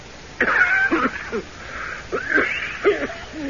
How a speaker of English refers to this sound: That's a wicked cough